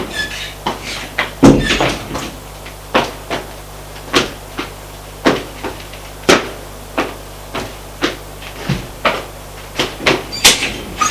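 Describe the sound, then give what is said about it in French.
A door being shut amid a long series of sharp knocks, clunks and rattles, about one or two a second, with a low steady hum underneath and no voices. “Ferme la porte.”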